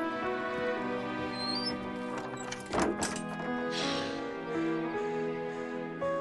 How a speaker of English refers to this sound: Petey trots off through the secret door, which Stymie closes behind him.